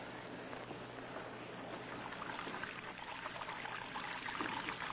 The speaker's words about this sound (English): Red Beaver lay sprawled in his bunk, watching water pouring from his wash basin to the cell floor.